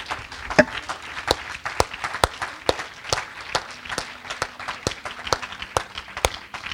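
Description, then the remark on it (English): An audience claps hands for the day's sermon in a steady, even rhythm of roughly two sharp beats per second, with a diffuse wash of scattered clapping filling the gaps throughout. “Just give another hand clap for the sermon today.”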